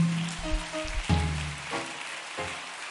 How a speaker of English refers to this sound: Let's give the Lord Jesus Christ a hand clap of praise.